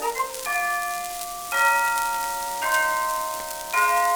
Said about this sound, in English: There goes the 3 o'clock chime, chiming, rhyming.